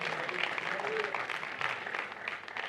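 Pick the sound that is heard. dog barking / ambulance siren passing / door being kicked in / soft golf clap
soft golf clap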